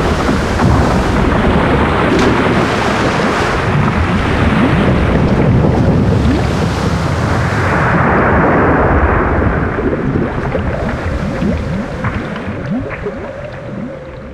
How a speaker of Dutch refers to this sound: Het schip verging met man en muis en rat en Flo.